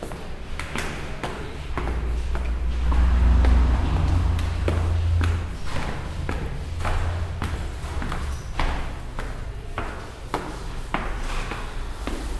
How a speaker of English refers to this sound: I'm going to go outside. Try to follow the sound of my footsteps so that we can stay together.